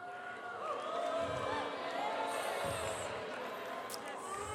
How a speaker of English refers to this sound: Oh, people, just booing the messenger. Thank you for the score.